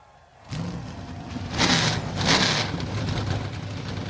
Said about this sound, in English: NASCAR Xfinity Series entries come to life on the pit lane.